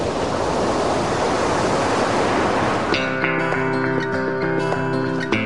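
A steady, full roar of ocean surf fills the first few seconds, then gives way abruptly to sustained musical tones with no one speaking.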